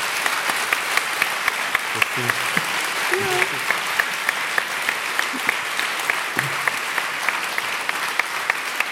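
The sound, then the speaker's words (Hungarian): Sustained applause from an on-site audience for two guests at the end of a roughly two-hour conversation, a dense wash of many hands clapping steadily throughout, with a few brief voices murmuring underneath. “egy nagy tapsot szeretnék kérni nekik.”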